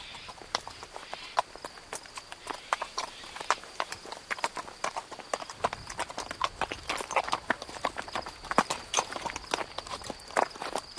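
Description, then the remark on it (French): Horse hooves clip-clop steadily on a hard surface, a quick run of sharp, irregular knocks, with a faint high hiss in the background and no talking. “J'ai tout ce qu'il faut pour votre cheval”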